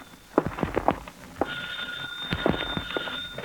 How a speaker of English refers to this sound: That's the hall phone, mister.